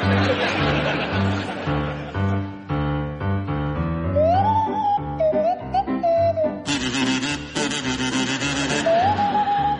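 Barry Cryer plays a jaunty tune on a buzzy kazoo, joined by Graham Garden on a Swanee whistle that glides up and down, with an audience laughing throughout.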